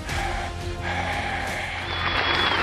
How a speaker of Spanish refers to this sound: Ay, mira, me aplaudieron hoy y ni siquiera es mi cumpleaños.